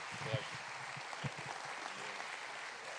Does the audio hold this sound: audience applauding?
yes